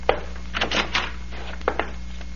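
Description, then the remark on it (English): The door handle of the recorder's office is rattled and tried, with a few sharp clicks and a short scraping swing as the door opens, then two more quick latch clicks, all over a low steady hum. “Let us try the door.”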